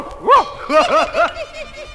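A small dog yaps several times in a quick, uneven burst, high-pitched, with no talking over it.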